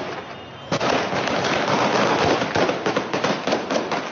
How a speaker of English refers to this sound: Video footage later showed the Taliban firing into the air and attacking people with batons to disperse the crowd.